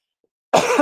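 A single loud cough into the microphone bursts in abruptly after a moment of silence, harsh and breathy.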